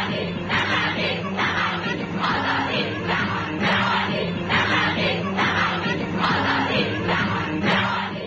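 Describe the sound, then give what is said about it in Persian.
A loud crowd of Iranian women protesters, at their first political rally after the revolution's victory, shouting against compulsory hijab in steady rhythmic bursts, roughly one chant every second, the massed voices forming a continuous dense roar with no single speaker standing out. “صدای فریادهای آنها برای همیشه در تاریخ ثبت شده است.”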